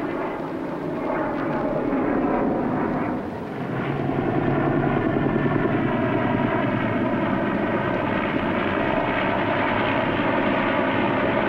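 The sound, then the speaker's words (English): A search plane's steady, droning propeller engine roars loudly and continuously overhead as it circles wreckage at 1000 feet over Soledad Flats, its pitch wavering slightly as it passes, with no voices present. “Circle wreckage at 1000 feet until arrival of helicopter rescue unit.”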